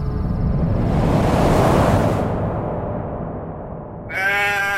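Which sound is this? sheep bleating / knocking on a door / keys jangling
sheep bleating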